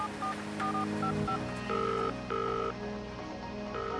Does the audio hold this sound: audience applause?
no